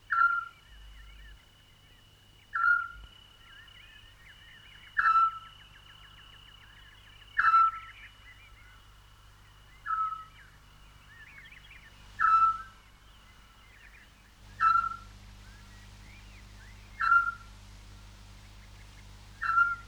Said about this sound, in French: Le petit duc. C'est un hibou. Pas plus grand qu'un merle.